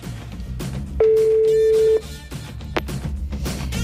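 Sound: phone call ringing tone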